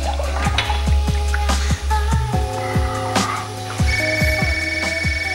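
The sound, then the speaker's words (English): A telephone rings in Las Vegas amid a busy mix of sound, with repeated tapping, drip-like knocks and sustained electronic tones; no one speaks. “In Las Vegas, the blonde woman answers a phone.”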